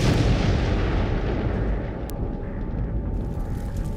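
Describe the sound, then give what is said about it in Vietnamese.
A massive nuclear bomb explosion's deep, roaring rumble fills the whole stretch, loud and continuous, easing slightly partway through with a faint steady hum beneath; no voices. “Vụ nổ tạo ra một quả cầu lửa với nhiệt độ lên đến hàng triệu độ C.”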